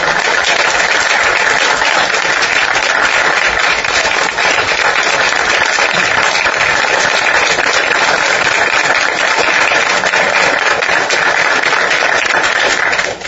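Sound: round of applause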